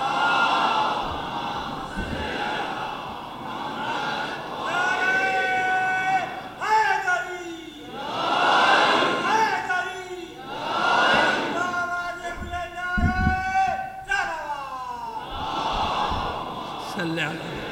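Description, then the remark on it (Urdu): A large crowd chants salawat, blessings on Muhammad, together in loud, swelling waves after being called to send a salawat, many voices rising and falling in unison through several repeated phrases, with a strong sustained tone in each recitation. “ایک سلوات بھیج دیجیے محمد.”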